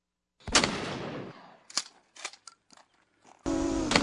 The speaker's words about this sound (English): It sounds like you can hear the shotgun blast from the drone. Yeah. Which comes pretty good ways before it craps out.